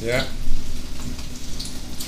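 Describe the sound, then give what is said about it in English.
Steady crackling sizzle of panko-coated hot dog, cheese and potato frying in a pan, continuous, with a low hum underneath and a brief voiced sound at the very start. “Ooh, those are sizzling nice, eh?”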